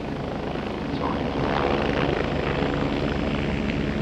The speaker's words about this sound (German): Ein verchromter Helikopter schwebt vom stahlblauen Himmel herab. Über dem Sprungturm bleibt er in der Luft stehen.